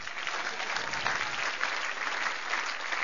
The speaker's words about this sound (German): Okay, Applaus.